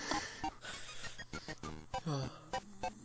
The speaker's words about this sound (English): Oh my god. We gotta wait for this to pass. It's not gonna pass, he's gonna keep snoring.